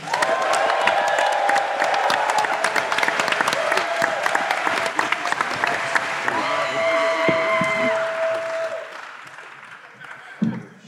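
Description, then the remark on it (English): Loud, sustained crowd applause with scattered cheers and whoops at the Skankfest 2025 comedy show as comedian Jake is introduced, a dense clatter of many hands that holds steady for about nine seconds before tapering off. “Ladies and gentlemen, big round of applause for Jake.”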